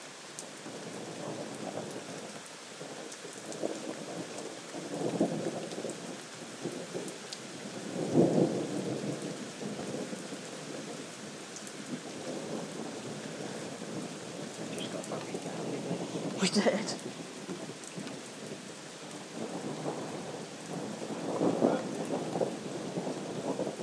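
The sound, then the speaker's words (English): A thunderstorm with steady heavy rain hissing throughout and low rolling rumbles of thunder swelling several times, plus a sharp crack near the middle; a brief spoken phrase is barely audible under the downpour. “This is one amazing thunderstorm.”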